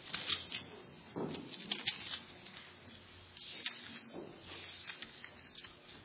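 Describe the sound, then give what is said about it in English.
Many pew Bible pages rustling and flipping at once as an audience turns to Philippians chapter 1 on page 1151, a soft, continuous papery crackle with scattered sharper flicks, with no one speaking. “When the leaves stop rustling, then I'll start.”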